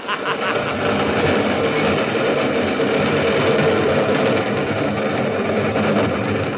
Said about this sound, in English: Yes, I was waiting for the 410 train to pass through. Here she comes.